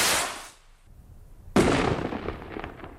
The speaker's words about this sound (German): Sei es am 1. August in der Silvesternacht oder an einem großen Fest, Feuerwerk gehört für viele einfach dazu.